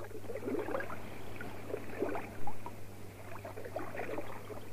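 Oars dip and splash in a slow, steady rhythm as a small boat is rowed across a river, with soft sloshing between strokes and a low continuous hum underneath.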